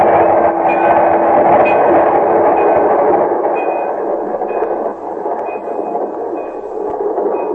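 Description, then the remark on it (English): A train roars loudly and steadily along the track, a dense continuous rumble with faint high tones riding on top, holding for several seconds with no one speaking. “Quick, Margie, get off the track. Margie, quick, here comes the train.”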